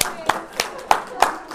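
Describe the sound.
A few scattered hand claps ring out at a steady, unhurried pace, sharp, with a faint murmur of voices underneath, like the thin start of audience applause at a talk at Ventris Memorial Library in Marshfield.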